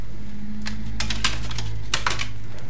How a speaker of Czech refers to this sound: Já jsem se jako musela ohnout a zvednout tady CDčko, které mi spadlo před chvilkou, asi jste to slyšeli.